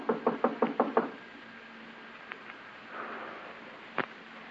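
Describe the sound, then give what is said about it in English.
A quick series of six sharp knocks on a door in a steady rhythm, followed by a quiet stretch with a faint hum, a couple of small taps and one later single knock. “Knock again.”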